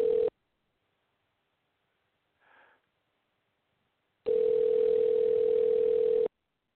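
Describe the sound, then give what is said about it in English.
A steady, mid-pitched telephone dial tone plays briefly as a live radio show tries to call back a guest whose line dropped. It stops for a few seconds with a soft faint rustle in between, then returns loud and unbroken for about two seconds before cutting off. “We'll see if we get him right back on.”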